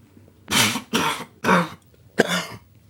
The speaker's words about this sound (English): You okay? Yeah, nah, just getting old. It seems I can't smoke or laugh now without coughing.